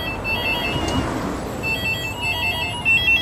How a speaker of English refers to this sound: While it's easy to ignore a homeless person, it's harder to ignore 15,391 phones ringing at once all over the country.